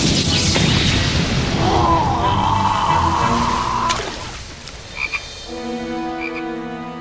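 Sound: frog croaking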